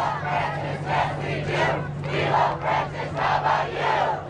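A large crowd waits outdoors at Andrews Air Force Base, just outside Washington, ahead of Pope Francis' arrival, with an honor guard on the tarmac. A dense wash of voices rises and falls in rhythmic swells about every half second, over a steady low mechanical hum.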